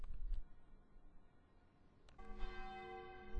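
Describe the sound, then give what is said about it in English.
The church bells of St. Botolph's Aldgate ring out from its large 18th-century tower, a strong resonant strike arriving after a quieter stretch, the tones sustaining and shimmering over faint outdoor background noise. “You can hear the atmospheric effects here. The bells. I'm standing outside St. Botolph's Aldgate.”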